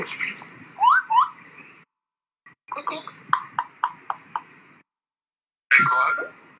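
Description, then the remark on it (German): A parrot at the Mönchengladbach Tierpark zoo mimics speech with odd, garbled word-like squawks in several short bursts, fairly clear, separated by brief silences. “Das ist ein Papagei, der komische Wörter von sich gibt.”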